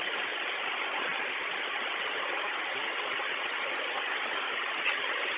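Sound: engine idling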